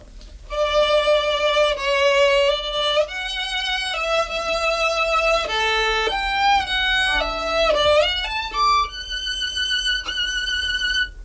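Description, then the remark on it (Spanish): A short snippet of a song played with the vibrato technique on a single sustained-tone instrument, the held notes wavering slightly as they step up and down, clear and fairly loud with no voices. “Vibrato, correcte, molt bé.”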